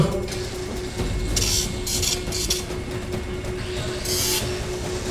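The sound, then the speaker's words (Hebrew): A small saw rasps through the breastbone (sternum) during chest surgery in a few short, harsh back-and-forth strokes, with a pause before a final stroke, over a steady low mechanical hum. No one speaks. “העצם היא איבר מאוד קשיח, וזה בדיוק התפקיד שלה, ולכן צריך מסור כדי לחתוך אותה.”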